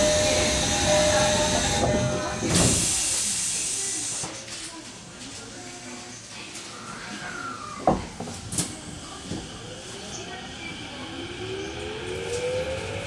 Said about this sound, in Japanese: 2番線の地下鉄東西線ドアが閉まります。ご注意ください。